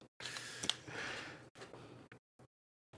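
A dealer at a MyBookie live online casino table shuffles playing cards: a long papery riffle is followed by a few shorter bursts and brief taps, with short silences between them and nobody talking.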